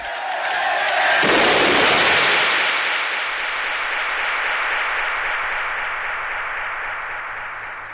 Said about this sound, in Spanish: Tras el alegato de unidad de Cyrus que hemos escuchado hace unos minutos, se oye un disparo.